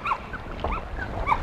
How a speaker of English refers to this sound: You can hear the dog.